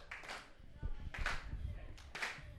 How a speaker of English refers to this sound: Hey, keep that clap going.